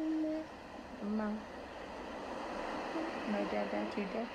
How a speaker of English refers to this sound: We always have our music playing for the kids. I love ocean sounds.